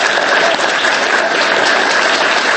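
Steady audience applause, a dense wash of many hands clapping at an even loudness throughout, with no voices standing out above it.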